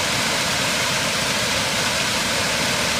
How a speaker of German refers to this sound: Das mitunter reißende Wasser des nun schon jugendlichen Lech schleppt die Steine weiter.